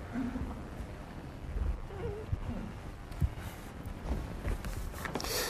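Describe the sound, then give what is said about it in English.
A chair scrapes and creaks as it is dragged across a hard floor, a rough, uneven grinding that runs for several seconds with a few sharper knocks. “So I walk over and I take a chair and I just drag it over to your place.”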